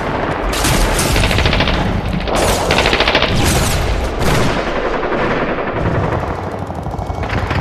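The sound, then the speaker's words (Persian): Dense, continuous simulated gunfire with rapid machine-gun bursts and heavier booming blasts like artillery shells, loud, filling the whole stretch with no speech; a recreation of bullets and shells striking at a war front. “این گلولایی که الان یه ذره صدا شنیدی یه کمی شبیه سازی قصه بود.”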